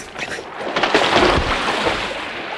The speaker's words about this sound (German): Das Holz, bei dem die Umbildung erst angefangen hat, schwimmt. Sieh selbst. Ich werfe dieses Stück hier ins Wasser.